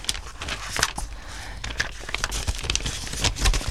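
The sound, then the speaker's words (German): Quick, dry rustling and flicking of paper photographs being flipped through rapidly, a rapid series of soft slaps and crinkles like sheets shuffled one after another, with no talking. “Blättert die Bilder rasch durch.”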